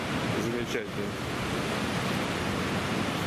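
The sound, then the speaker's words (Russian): Steady, dense roar of ocean surf washing onto the shore, fairly loud and continuous without distinct breaks, with a brief faint voice near the start. “А там что делается? Одна за другой вот они накатывают.”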